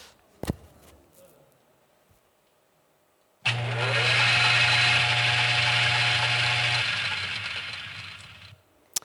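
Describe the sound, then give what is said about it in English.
A sharp click, a short quiet pause, then a blender starts with a loud, steady whirring roar and a low motor hum for about five seconds before cutting off with another click. “Now, imagine that a frog jumps into a blender.”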